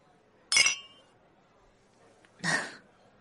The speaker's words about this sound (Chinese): 嗯，那一起吃点东西吧。干杯！